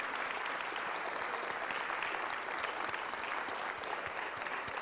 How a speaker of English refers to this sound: Now it's time for all of us to stand and give a huge round of applause for all of our leaders. Thank you.